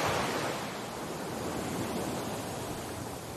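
ocean waves washing ashore

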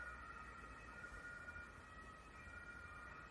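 emergency vehicle sirens outside

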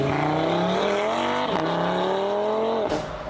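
car engine revving loudly

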